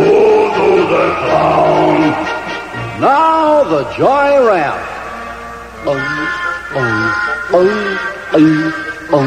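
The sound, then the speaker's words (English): Voices imitate a lion's roar as part of a sing-along song, loud: a group makes several drawn-out, rising-and-falling growls in quick succession, some overlapping, with the last few shorter and more clipped. “Once again, the lion this time.”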